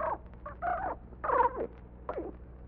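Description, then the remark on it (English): A carrier pigeon calls in a series of four short, warbling coos with brief pauses between them, fairly loud and with no talking. “Now, do you think the carrier pigeon will take that note to Mr.”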